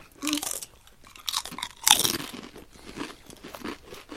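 Crisp crunching of fish-flavoured chips being bitten and chewed, with a sharp loud bite near the middle followed by a run of softer, irregular crunches and chewing, no talking.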